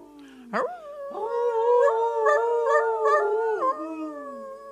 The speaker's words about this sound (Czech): Bílý vlk Veles k ním pronesl svou vlčí řeč z očí do očí a vlci na znamení souhlasu krátce a dlouze zavili.